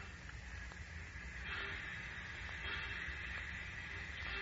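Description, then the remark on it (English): A steady rumbling hiss of an idling train waiting at a station, train number 4 bound west on track 17, with low mechanical drone, faint clanks and brief squeals over a continuous background roar. No one speaks. “Train number 4, the Mountaineer, leaving for the West on track 17 in 10 minutes.”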